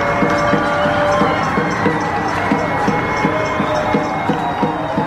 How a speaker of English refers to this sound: People in Silver Lake just screaming, banging their pots and pans, just trying to show love and cheer up the neighborhood.